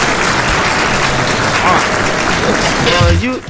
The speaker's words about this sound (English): I like that, man. A round of applause, my brother.